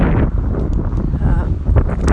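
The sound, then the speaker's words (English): Water rushes steadily along a creek at Loch Lofty, in a creek bed that is usually dry, now gushing, in a dense, continuous hiss and gurgle, fairly loud and unbroken for the whole stretch, with a few brief splashy surges. “So this sort of sound of rushing water was really, really nice.”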